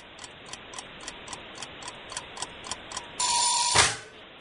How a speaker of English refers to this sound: Oh, there's the timer.